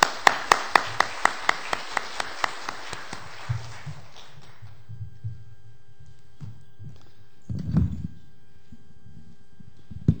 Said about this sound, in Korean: 우리 박수로 환영하면서 한번 우리 목사님 모시겠습니다. 환영합니다.